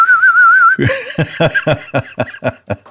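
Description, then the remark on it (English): A robot flying sound effect for Jet Jaguar, a silver humanoid robot with a little red on its helmet, flying around: a wavering, high whistling tone that gives way to a quick train of about nine rhythmic, buzzy pulses, fairly loud, with no talking. “It's a humanoid robot painted in silver with a little bit of red on the helmet, and it's flying around to the to this sound.”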